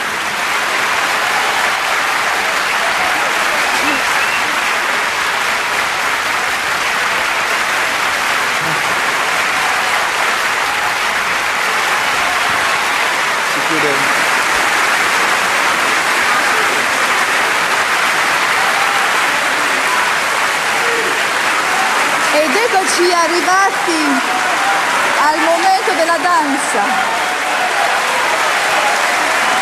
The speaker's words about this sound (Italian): Standing ovation, allora era un po' ingessato il festival, quindi la standing ovation si faceva da seduti. Cioè non è che si alzava, però c'era un applauso.